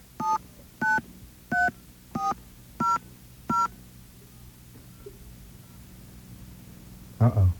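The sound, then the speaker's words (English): Six short telephone keypad tones beep at a steady, even pace, each a clean two-note touch-tone, as an area code and phone number are entered in response to an automated phone prompt, followed by a quiet stretch and a brief low thump at the end. “Okay, we're going to enter our phone number here.”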